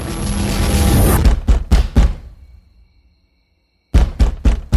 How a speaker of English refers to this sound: Open up! I don't want to knock this door down, but I will...